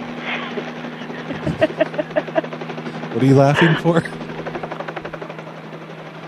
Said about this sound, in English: Oh, no, it's just, it's a small chopper. It's just going to be landing on the roof here in just a second.